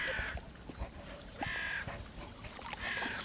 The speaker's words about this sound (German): Krähen sitzen in den Bäumen außen herum.